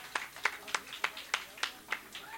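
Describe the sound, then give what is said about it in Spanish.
Steady, evenly spaced claps, about eight sharp hand claps in a regular rhythm, moderately loud, like an audience clapping in unison for a performer at a show. “quiero pedirle un aplauso para él”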